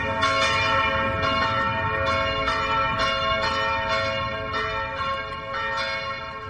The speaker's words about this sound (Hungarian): És hogyan szólal meg az a harang? Hát a harang úgy szólal meg, hogy itt az applikáción van egy tesztharang, 10 másodperces tesztharang, és most meg is szólaltatjuk.